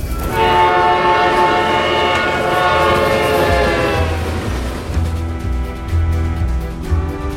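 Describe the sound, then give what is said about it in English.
A train horn blares loud and sustained for several seconds over a heavy rolling rumble, then cuts off as the train keeps thundering past. “These train tracks can take you many places, but that doesn't mean that they're all places you should go.”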